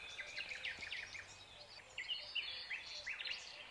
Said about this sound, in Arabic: ممكن تصمتوا يا جماعة، نسكت 10 ثواني؟ أنا أصوات الطيور اللي هنا شيء أنا ما حسيتوش قبل كده في حياتي، عمال سامحهم حواليا كل ثانية.